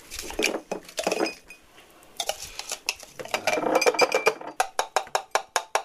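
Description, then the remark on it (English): Ice from the fridge, crushed in a blender, clinks and rattles into a glass while a rum drink is being made, a dense jumble of bright knocks that ends in a quick, steady run of sharp taps. No one speaks. “And put it in the glass.”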